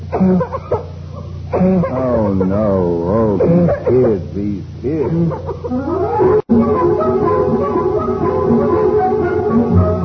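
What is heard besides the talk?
whooping cough coughing fit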